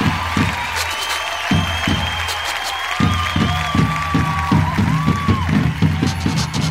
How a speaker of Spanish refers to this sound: Vamos a volver a presentar a estos grandes de la música, a petición de todos ustedes, nuevamente en escena, la saya afro-boliviana. ¡Fuerte los aplausos!